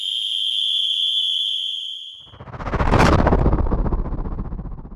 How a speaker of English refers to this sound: The shrill whistle cut through the chatter. The signal had been given.